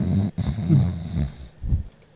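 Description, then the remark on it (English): A person snores loudly right up against the microphone, a rough, rattling throat sound with a brief break and then another heavy snort-like pull of breath. “Ah, go ahead, snore into it again.”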